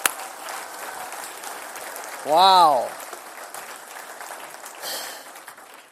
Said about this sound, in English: All right. Can we give them all a big round of applause? Thank you, guys. Woo!